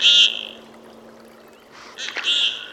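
Common goldeneye ducks give courtship calls on the icy waters of Lake Champlain, Vermont: two short, buzzy, high-pitched notes, one at the start and one near the end, fairly loud over a quiet outdoor background with a faint steady hum.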